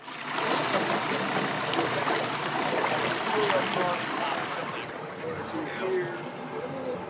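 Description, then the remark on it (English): A boat travels steadily up the Taku River near Juneau, Alaska, its loud, continuous rush of engine drone and churning water filling the whole stretch without a break. “We're headed up the Taku River, one of three major rivers that run across the border from the Canadian interior to the wild, forested coast of Southeast Alaska.”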